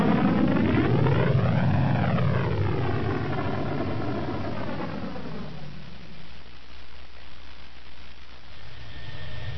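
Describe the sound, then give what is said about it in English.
The one still-functioning main engine of Boba Fett's ship Slave One fires up, its whining tones sweeping up and down before settling into a steady, rushing roar, loud with no voices. “he hit the button to fire up the one main engine that was still functioning.”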